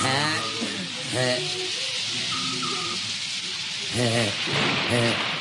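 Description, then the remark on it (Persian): Steady spring rain shower hisses continuously in the background while people speak over it in short exchanges, the downpour staying even and fairly loud throughout. “ایچی عرض کردم بارون میاد.”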